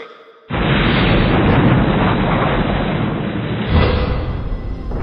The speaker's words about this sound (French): Vous avez vu ça? Des explosions!